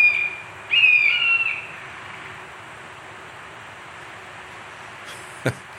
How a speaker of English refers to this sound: Their young are just hatched, and they're flying about in the woodland at the farm, calling for their parents to come and feed them with this very high-pitched squeak, very uncharacteristic for a large bird like a buzzard. Just hear them.